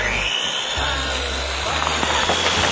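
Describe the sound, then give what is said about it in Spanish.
A chainsaw engine is started while a tree is being picked out. It catches after a brief sputter and settles into a loud, steady, buzzing roar with a deep rumbling undertone that holds for a couple of seconds. “ya encenderé la motosierra y tú dime cuál y ya, ¿eh?”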